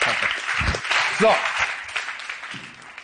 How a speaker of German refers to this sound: Okay. So. Riesen Applaus